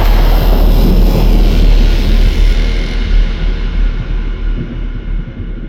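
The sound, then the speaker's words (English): A loud, rolling thunderclap from a lightning strike roars across a broad range, a dense rumble that holds strong for a few seconds and then slowly fades as the sharper highs die away. “I felt the lightning before I heard the strike.”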